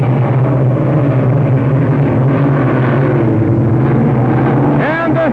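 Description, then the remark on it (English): A loud, continuous roar of racing boat engines as four boats (Budweiser, Murr's Special, Pay and Pack and Vance PX) start a race, throwing rooster tails: a deep droning rumble with layered whining tones that holds steady throughout, with a brief swooping whine rising near the end. “It's going to be a beautiful start. Here comes those rooster tails.”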